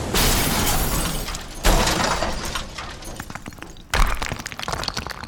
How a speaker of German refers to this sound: Schatzkisten flogen durch die Luft und verstreuten ihren Inhalt quer durch den ganzen Raum. Prächtige Rüstungen fielen laut scheppernd um und andere Goldberge stürzten sogar vollständig ein.